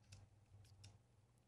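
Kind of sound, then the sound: household object, typing on keyboard keys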